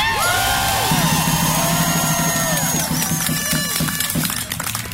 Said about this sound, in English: Now, you hear, if you don't hear that, there are a few people already booing,